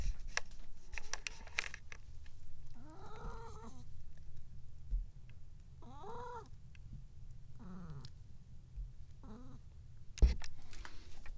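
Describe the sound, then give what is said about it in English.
A cat lets out a series of odd, warbling meows and chirps, about four separate vocal bursts with pauses between, over a low background rumble, ending with a sharp click. “Well, those weren't her best funny kitty noises, but that was still pretty good.”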